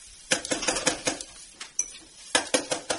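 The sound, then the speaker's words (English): Quick bursts of sharp rapping on a door, several clusters of fast, bright knocks separated by short pauses, with no voices. “I thought it was some doggone woodpecker planting acorns for the winter.”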